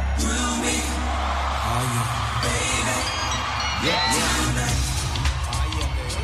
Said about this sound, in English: And now, he's watching as the crowd at the LA Coliseum go off.